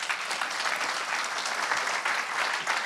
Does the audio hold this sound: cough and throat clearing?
no